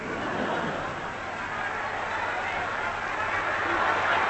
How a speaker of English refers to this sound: Look at all the people on the pavements. Thousands of them. I wonder who they're cheering.